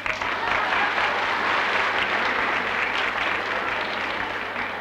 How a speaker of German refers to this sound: Bitte nochmal Applaus, Avanti.